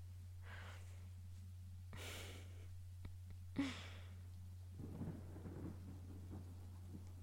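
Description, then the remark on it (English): Low thunder rumbles steadily through a storm, with a few soft, breathy bursts of noise rising above the deep, continuous roll. No one speaks. “I just want the storm to be over.”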